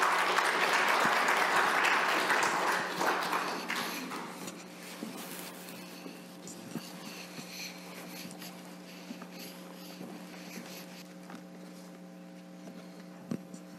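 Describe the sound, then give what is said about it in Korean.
An audience at a dawn church service claps together to welcome the pastor, a dense burst of applause that fades out over about four seconds, leaving a low steady hum with a few faint scattered taps and rustles. “오늘 이 새벽에 아름다운 삶이라는 주제로 제목으로 말씀 주실 때 큰 은혜가 있을 줄 믿고 그런 의미에서 우리 목사님 같이 박수로 환영하겠습니다.”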